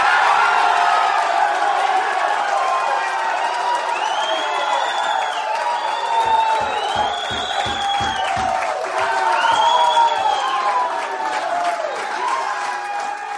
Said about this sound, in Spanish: Después vitoreaban a Mize en la Universidad de Auburn, donde ahora mismo está jugando, donde pertenece.